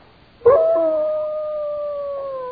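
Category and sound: animal, wolves howling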